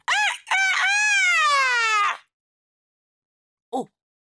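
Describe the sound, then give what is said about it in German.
A boy imitates a rooster's crow, a short opening note followed by a long, loud, harmonic cock-a-doodle-doo lasting about two seconds, then a brief higher squeak after a pause. “Ich muss krähen, wenn ich auf etwas stolz bin.”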